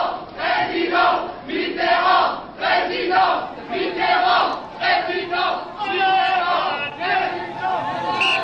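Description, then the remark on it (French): A huge crowd gathered at the Place de la Bastille celebrating the presidential election result cheers and chants in loud, rhythmic waves, the massed voices rising and falling in steady pulses with no pause throughout. “Dès 20h, dès l'appel de Lionel Jospin, une foule immense s'était rassemblée sur la place de la Bastille.”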